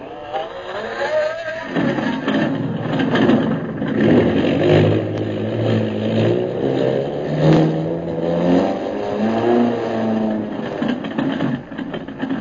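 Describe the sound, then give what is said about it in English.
The engines of a repaired airplane sputter to life as the pilot turns the motors over to take off for Mandalay, then rev up: a loud continuous drone whose pitch rises and falls in waves before settling into a steady roar, with no talking. “Turn the motors over, pilot.”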